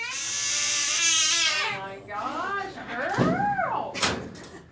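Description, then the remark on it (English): A cat meows repeatedly at Anasira Veterinary Center in Harrisonburg, where it is having a dental procedure, starting with a long drawn-out wail and followed by several shorter rising-and-falling cries, with a brief clatter near the end. “In a nearby room, a cat is having a dental procedure.”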